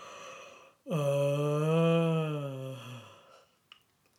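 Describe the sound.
A narrator's voice imitates a bear's long, deep yawn, a drawn-out voiced groan that swells then slowly sinks in pitch for about two seconds, fairly loud, followed by a faint breath.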